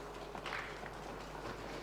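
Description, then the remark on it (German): A poetry slam audience drums a rapid, continuous drumroll before the winner is revealed, many hands or feet pattering together in a dense, steady rumble with a few louder swells, with no voices over it. “Jetzt könnt ihr nochmal einmal wirklich Applaus machen, also Trommelwirbel, denn ich schalte jetzt frei.”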